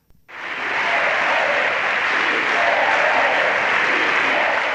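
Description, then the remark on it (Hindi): Loud, sustained applause from a large crowd fills Spain's parliament as Prime Minister Mariano Rajoy loses a no-confidence vote, starting abruptly after a brief moment of quiet and continuing steadily as a dense wash of clapping. “Spain की संसद उस वक्त तालियों की गड़गड़ाहट से गूंज उठी जब स्पेन के प्रधानमंत्री मारियानो रखॉय अविश्वास प्रस्ताव हार गए।”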